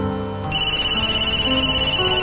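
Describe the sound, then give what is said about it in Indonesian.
A mobile phone ringtone plays loudly and steadily, a bright electronic melody with sustained tones and a pulsing rhythm, with no voices over it. “suara handphone berbunyi.”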